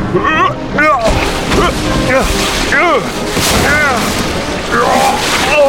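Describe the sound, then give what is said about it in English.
A wooden ship is driven by waves against a giant rock: timbers groan, creak and snap and bulkheads crumple in rising, falling wails, while heavy crunching booms and a constant wash of rough water and wind fill the background. “Timbers groaned and snapped and bulkheads crumpled as the waves drove it against a giant rock.”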